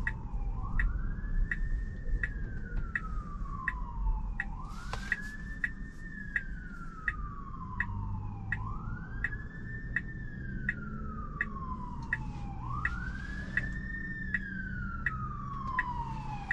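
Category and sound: vehicle, fire truck siren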